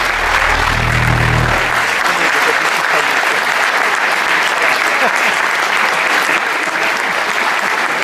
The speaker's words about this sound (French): Et je vais vous la présenter ce soir et je voudrais qu'on lui fasse un tonnerre d'applaudissements parce que c'était pas prévu. C'est lui qui m'a tout appris. On peut l'applaudir.